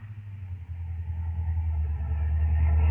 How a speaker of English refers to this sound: Well, here we are. Have to pull the car a bit off the road, though, to park.